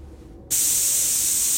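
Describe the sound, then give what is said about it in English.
A loud aerosol spray paint can bursts on abruptly and hisses steadily as someone spray paints over the lens of a security camera in an empty mall at night, a bright continuous spray that holds at full strength without pausing. “Somebody spray paints over the lens of a security camera.”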